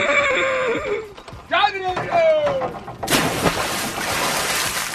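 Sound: horse neighing and whinnying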